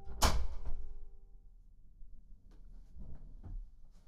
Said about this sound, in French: Je vais fermer la porte, on sera plus au calme.